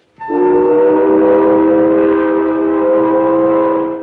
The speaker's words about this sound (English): Not only the... Remarkably tasty, but due to the unique positioning of these little holes, they are capable, when blown through, of rendering a tuneful whistle. You place your fingers over the holes and blow thus.